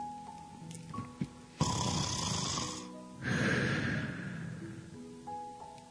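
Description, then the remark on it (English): Two people imitate heavy breathing and blowing out, one doing the breathing and one the blowout: two long, breathy rushes of air, the first a harsh blow, the second rougher and wheezier, with quiet background sounds around them. “He does the blowout. He does the blowout. I did the breathing.”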